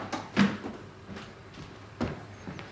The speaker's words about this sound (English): Ryan tries the door to the cellar, but it's stuck. He yanks it open and joins Wilfred downstairs.